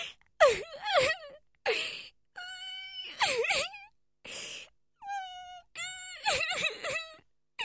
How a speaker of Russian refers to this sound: Вы слышали? Да. Такое впечатление, что кто-то плачет.